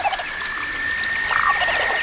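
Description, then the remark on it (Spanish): Rain beginning to fall at a crane roost, a steady soft hiss of drops, with a thin continuous high-pitched tone running underneath and no voices. “Empieza a llover.”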